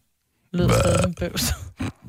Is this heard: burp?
yes